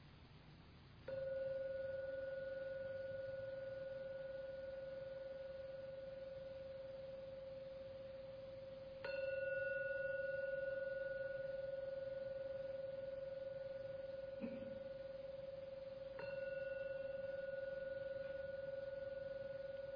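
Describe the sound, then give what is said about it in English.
A meditation gong is struck three times, about seven seconds apart, to mark the end of a meditation. Each strike rings out in a steady, pure mid-pitched tone with faint higher overtones that hang and slowly fade before the next. “Just wait for the 3rd ringing of the gong to disappear.”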